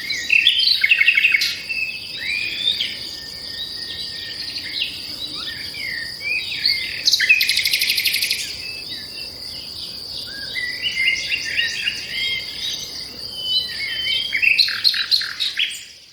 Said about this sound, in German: Also, der Name kommt natürlich tatsächlich von der Nacht, weil der Vogel, also der Herr Nachtigall, tatsächlich bis weit in die Nacht zwitschert und dieses berühmte Nachtigallenschlagen hören lässt.